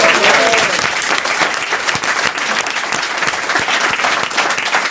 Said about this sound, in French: Du coup, vous avez gagné un cadeau. Ah bah super. C'est voilà. Aussi bête que ça et on vous applaudit. Bravo.